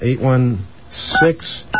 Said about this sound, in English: Okay, well, let's get a dial tone there. Oh, there it is. Okay, let's give him a call.